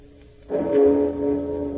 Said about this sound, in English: and the ceremonious pealing of Big Ben.